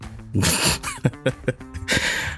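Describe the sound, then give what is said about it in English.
Fairly loud sniffling: a long airy nasal inhale, several quick sharp sniffs in a row, then another drawn-out breathy sniff at the end, with no talking. “I heard you sniffling.”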